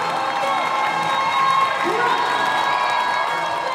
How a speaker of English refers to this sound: We're very proud of her, so that's why we cheer for her. Yeah, they cheered.